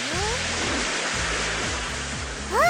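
A big, loud ocean wave roars and washes over the beach in a continuous rush of surf, swelling again near the end, with faint sliding tones underneath.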